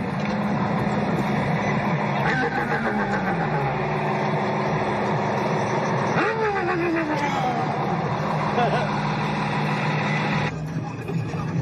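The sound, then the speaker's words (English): Steady, loud engine noise from a group of suspected street racers' cars in Oklahoma, with engines revving and pitch sweeping upward as the cars pass a moving police patrol car, a dense rumble that holds throughout before easing slightly at the end. “an Oklahoma police officer is going viral after using his patrol car's loudspeaker to roast a group of suspected street racers as he was driving by them.”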